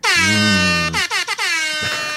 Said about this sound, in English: Oh, if you could only see the defective broken air horns iPhone app. That was the sad trombone.